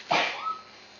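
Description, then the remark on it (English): A single small, quick sneeze bursts out near the start, soft, then fades into quiet with a faint tonal trace afterward. “That was the cutest little sneeze.”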